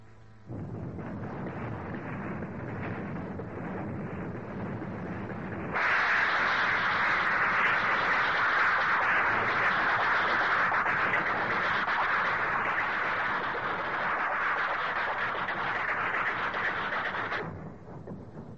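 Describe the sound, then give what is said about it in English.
A steady low rumble of a moving train suddenly swells into a louder, brighter rushing roar as a carriage door opens, holding steady before quieting again near the end. “Now we open the door.”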